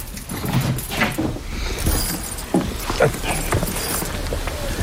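A bunch of keys, taken along to go to the classroom of a small school in Légubiac, jangles and clinks in irregular bursts for several seconds, bright metallic rattles rising and falling over a low background murmur.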